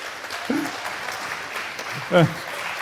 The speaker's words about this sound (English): Thank you for this excellent talk. Please give another question. No, okay. Please give a very warm round of applause